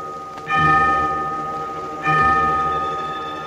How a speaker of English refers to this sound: Church bells, too, rang out their peals for help.